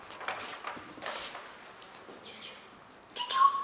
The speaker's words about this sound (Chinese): 循着小鸟的叫声，他们来到了草心旁，他们看到助听器就在对面的石头上，静静地躺着。